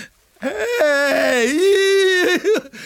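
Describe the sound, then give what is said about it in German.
A giant panda cub whimpers in one drawn-out, wavering cry, high and plaintive, rising and dipping in pitch before breaking off. It is fairly loud, with no talking. “Aber das ist ja... Es ist das Panda-Baby.”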